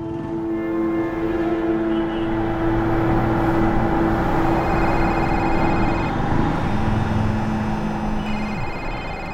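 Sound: car driving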